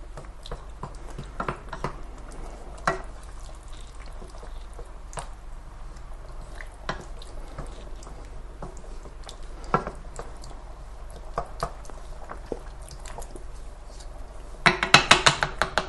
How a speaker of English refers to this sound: and I don't know if you can hear or not, but because of the liquid in the tomatoes, the sound of it will be more like a water boiling, I suppose, now than an actual sizzling sound. So we'll just give that a bit of a mix around.